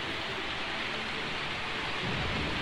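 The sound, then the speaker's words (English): Low thunder rumbles steadily beneath a dense wash of heavy rain, the deep roll swelling slightly toward the end; no voices are present. “The crash of thy thunder was in the whirlwind.”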